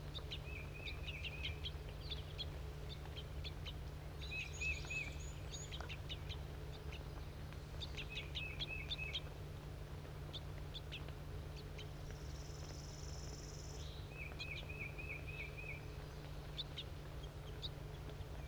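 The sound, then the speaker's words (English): Juvenile bird begging calls, the juvenile begging from an orange adult male: bursts of rapid, high, thin chirps repeating in clusters over a steady low background hum, with brief pauses between bouts and no talking. “The juvenile is begging from the male, who's an orange bird.”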